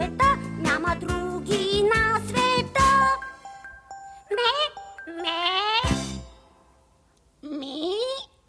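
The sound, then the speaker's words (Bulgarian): A young goat, Boc, bleats loudly: a quick run of quavering bleats, then three longer separate calls with short pauses, while soft tinkling bell-like tones ring faintly behind them. “Козлето Боц съм.”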